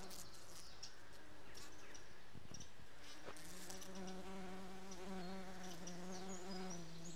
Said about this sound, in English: I think I'm going to leave these bumblebees to get on with what they do best